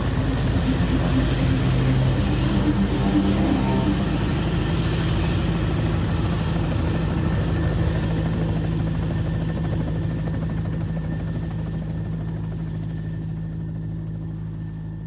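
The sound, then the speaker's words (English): A helicopter roars with a heavy, steady rotor drone, then gradually grows quieter and duller as it flies away after dropping off an expedition team on the first day of their expedition. No voices. “They could fly away when the helicopter goes.”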